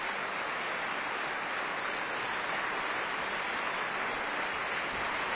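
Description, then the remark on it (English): An opera audience at the Royal Opera House, Covent Garden, gives dense, steady applause and a huge cheer for the soprano singing Liù, a continuous wash of clapping with no pauses and no voices standing out above it. “And as we would expect, Hiblegger's Marva getting a huge cheer.”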